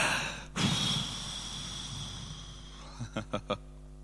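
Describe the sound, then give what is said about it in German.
A long, broad airy rush as a group of people inhale deeply together, settling into quiet, followed by four short soft puffs or thumps near the end. No one speaks. “Wollen wir einmal kurz tief atmen? Einmal tief.”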